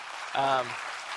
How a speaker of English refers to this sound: Would you mind to stand up, please? Would you give this gentleman a big, huge round of applause?